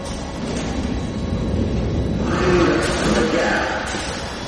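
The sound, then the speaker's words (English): A train rumbles past on the rails, a steady, heavy low roar that swells and brightens midway with a metallic hiss, loud throughout. “There's a train.”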